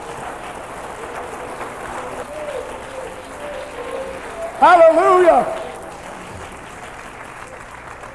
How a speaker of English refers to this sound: Oh, give him a good clap off.